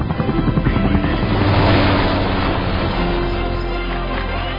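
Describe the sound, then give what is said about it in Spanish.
A steady, loud helicopter rotor drone with a rumbling, pulsing low end, swelling slightly midway and holding constant throughout, with no voices. “Estamos en este helicóptero para proteger lo que más importa.”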